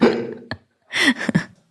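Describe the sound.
A voice imitates a fart with the mouth: a buzzy, sputtering burst, a short sharp pop, then a second louder raspberry-like blurt, all fairly loud. It is a player's signal sound in a 'Never have I ever' game.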